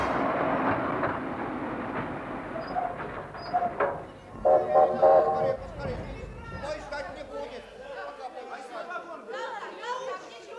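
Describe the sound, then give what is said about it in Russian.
A train rumbles and clatters along the rails for the first several seconds, then fades as a crowd of voices chatters on a station platform. “Мне сразу стало не по себе, как только я вышел из вагона на перрон.”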